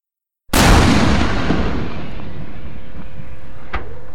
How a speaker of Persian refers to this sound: اما مرد پیش از اینکه اونها برسند، تپانچه رو در آورده و به سمت شاه خالی میکنه.